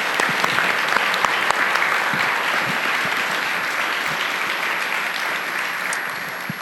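A crowd applauds steadily, a dense wash of many hands clapping at an even loudness for several seconds with scattered sharper claps standing out, and no talking over it.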